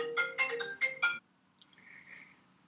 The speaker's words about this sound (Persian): ببخشید دوستان، این تلفن از مرکز انفورماتیک دانشگاه بود.